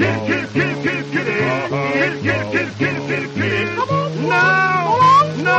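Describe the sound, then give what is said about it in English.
A voice imitates a cat, meowing over and over in a rhythmic, sliding run set to a song, with steady instrumental accompaniment underneath and a few wavering, stretched meows toward the end. “Meow. Meow.”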